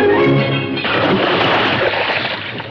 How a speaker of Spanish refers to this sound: luego va a proa y coge el ancla. Tira el ancla al agua.